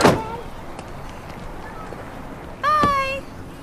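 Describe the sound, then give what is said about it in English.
A car door slams shut with one sharp, solid thud as a woman who has climbed into the back of her car shuts it; the thud briefly overlaps a voice, while the faint hum of an outdoor background runs underneath. “Wendy climbs into the back of her car with her disguise and shuts the door”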